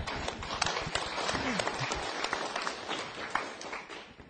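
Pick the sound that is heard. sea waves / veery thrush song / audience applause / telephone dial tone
audience applause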